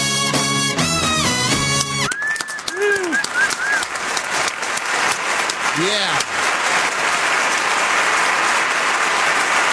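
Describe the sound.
Loud, sustained audience applause acknowledging the All Boy Orchestra, a dense wash of many hands clapping, with a few whoops and cheers rising above it and a brief spoken word at the start.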